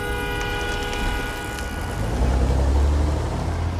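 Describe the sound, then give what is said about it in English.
Steady traffic on Fifth Avenue: a continuous low rumble of engines swells as a heavy vehicle rolls past, with a faint tonal whine and hiss of tires over the roar. No voices. “Feeding so close to traffic is dangerous.”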